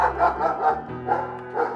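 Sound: dogs barking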